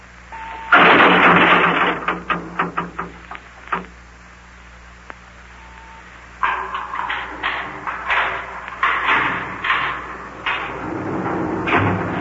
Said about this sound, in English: You're just through this door here, Yuki. Yeah, come on in here, fellas. I'll close it behind you.